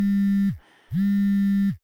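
A smartphone rings with two steady, buzzy electronic tones separated by a short pause. Each tone drops off slightly at the end, clear, with no voices.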